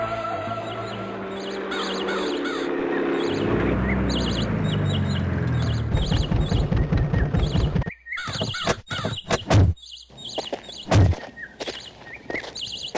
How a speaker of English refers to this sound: listen to those birds. Sure is sign of spring. It's setting up to be a lovely day out here.